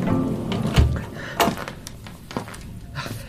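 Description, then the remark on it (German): The door of a guardroom thuds shut during a snowstorm with a low, solid knock, followed by a couple of lighter clicks and knocks against a faint background hiss. “Da fliegt plötzlich die Tür auf und in die Wachstube kommt zusammen mit einem Wirbel Schneeflocken ein junger Mann, den ich noch nie gesehen hatte.”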